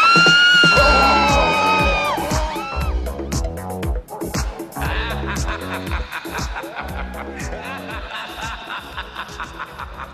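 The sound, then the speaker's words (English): A peacock lets out loud, shrill wailing cries, heard on waking after a night sleeping in a Honda Odyssey, with piercing rising and falling calls in the first few seconds, followed by a dense, noisy clamor that carries on to the end. “On top of everything else, Bill Sue had a peacock.”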